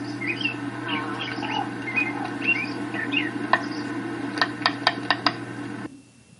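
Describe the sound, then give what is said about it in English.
Acorn woodpeckers at a communal acorn store in a tree give chattering, squeaky calls, followed by a quick run of sharp wooden taps, all over a steady low background hum with no talking. “They hammer the acorns into the holes so firmly that few other creatures can get them out, and the store will keep the acorn woodpeckers supplied throughout the rest of the year.”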